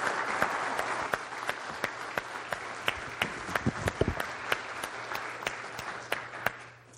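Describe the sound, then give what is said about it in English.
An audience applauds steadily for several seconds, a dense wash of many hands clapping with sharper individual claps popping out, fading slightly toward the end. No one speaks. “Let's give them a round of applause for a great job.”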